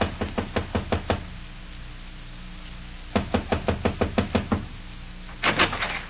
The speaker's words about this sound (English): This is his room, Mom. Well, knock on the door